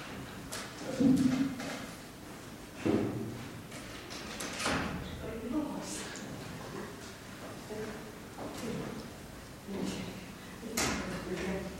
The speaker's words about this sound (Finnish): Kuulkaa, avaisitteko sen oven tälle rouvalle?